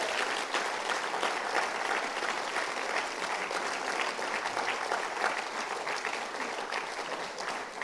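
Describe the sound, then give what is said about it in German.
An audience claps for Jesus to celebrate the evangelist Reinhard Bonke, a dense wash of many hands at a constant loud level throughout, with no voices standing out. “Ja, klatscht ruhig Jesus dafür.”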